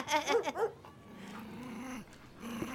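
dogs growling

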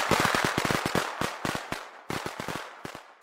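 fireworks exploding

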